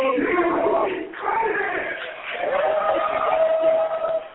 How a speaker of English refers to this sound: We just hit intermission here at 11 o'clock. The crowd's still buzzing. Nobody's left.